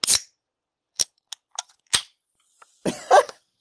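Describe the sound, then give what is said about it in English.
A can of free soda provided by NVIDIA being opened: a few sharp metallic clicks of the tab, then a louder crack and a short burst of fizzing near the end that splashes onto a laptop keyboard, with no voices. “Yeah, we get free soda, which is it's great. It's great. We're very cheap, but I'm gonna open this up now.”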